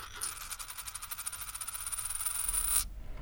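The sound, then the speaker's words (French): A coin is set down on a hard surface and wobbles, its bright metallic ringing rattle speeding up over about three seconds before stopping abruptly. No one speaks. “Dans un baluchon, elle pose une aiguille, une paire de baguettes, un petit morceau de bambou, le bol au lapin blanc, une gourde, du riz, un petit couteau, une grande marmite et sa dernière pièce de monnaie.”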